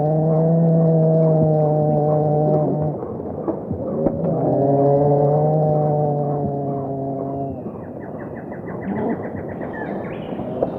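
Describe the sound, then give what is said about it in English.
An antbird calls with two long, steady, buzzy notes, each a few seconds long, followed by a faint rapid trill, over a constant rustling forest background with no talking. “The sound that you hear in the background is the ant bird.”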